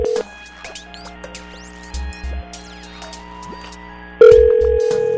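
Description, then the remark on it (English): A telephone line ringing, with a loud steady ring tone at the start and again near the end, separated by a stretch of crackly line noise and faint clicks. “Oh, wait, I heard something. Oh, it's ringing.”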